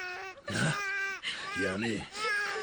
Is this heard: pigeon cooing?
no